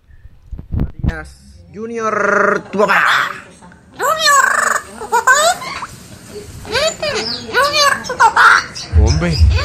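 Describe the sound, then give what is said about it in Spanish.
A parrot squawks and chatters in a string of speech-like, sing-song calls, fairly loud, with harmonic whistles and raspy bursts that mimic human talk throughout. “A ver, escuchemos al loro juniorista, a ver.”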